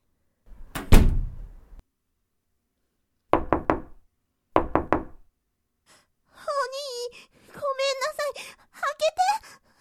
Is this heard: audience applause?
no